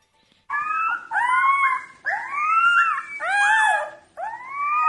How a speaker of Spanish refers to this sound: Y tienes el sonido nuevo del aullido de los lobos. Esto no había sonado en el planeta. En 10,000 años.